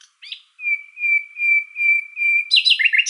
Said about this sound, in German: Und zum Vergleich jetzt nochmal die Nachtigall.